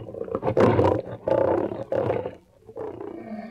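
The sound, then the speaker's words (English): A big Bengal tiger in a circus tiger cage snarls and growls in several harsh, rumbling bursts, with a brief pause before a lower, quieter growl trails off. “Listen to that big Bengal snarling at us.”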